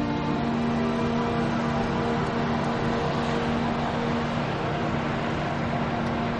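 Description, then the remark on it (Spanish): A steady, continuous engine rumble and road roar, like riding inside a bus moving along a road lined with tall pine trees, with a low droning hum that stays constant throughout and no voices. “Circula en autobús por una carretera flanqueada por altos pinos.”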